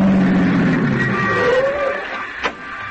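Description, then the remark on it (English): A car engine rumbles, its pitch easing down as it slows and settles into a steady idle, with a single short knock near the end. “Hold the car here”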